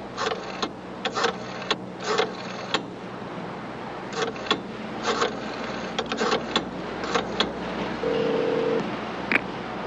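A cell phone is being dialed: a run of short, irregular button clicks and presses, fairly quiet, followed near the end by a brief steady electronic tone. No one speaks.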